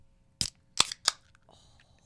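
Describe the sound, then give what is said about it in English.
A can of Breckenridge Brewery Mile High beer being cracked open: three sharp metallic clicks in quick succession, followed by a soft, faint fizzing hiss, with no talking. “Did you open yours yet?”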